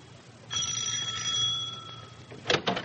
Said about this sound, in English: And so, this evening, Penny's doorbell rings.